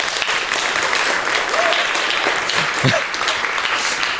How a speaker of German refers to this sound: Ich glaube, das Log hat mir Dinge geliefert. Bitte einen Applaus für das Log.